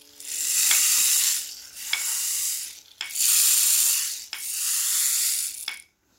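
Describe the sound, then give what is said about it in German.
Steady hissing rain comes in four broad waves, each swelling and then slackening, with a few sharp ticks of drops, before the sound drops away to silence at the end. “Bald lässt der Regen wieder nach.”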